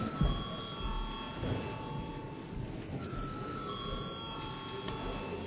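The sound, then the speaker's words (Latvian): A parliament chamber bell rings steadily for several seconds with a sustained, even electric tone, calling a vote on a bill amending the Competition Law, while a low murmur of voices and shuffling continues underneath. “Paldies, lūdzu zvanu.”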